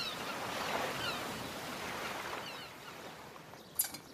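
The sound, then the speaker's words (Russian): Sea waves wash steadily ashore in a broad, hissing roar that swells and eases slightly, with a faint brief splash near the end and no voices. “Чекан задумчиво смотрит на море.”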